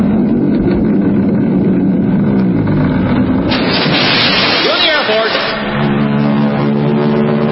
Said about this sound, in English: Then the Royal Canadian Air Force will fly overhead towing a 10-ton maraschino cherry, which will be dropped into the whipped cream to the cheering of 25,000 extras.